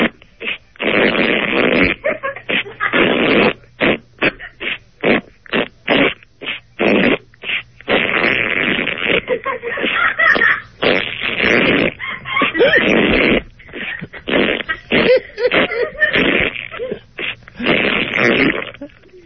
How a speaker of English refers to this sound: It's not a burp, it's not a fart, it's not too sweet, it's not too tart. It's 6 o'clock, it's time for a queef.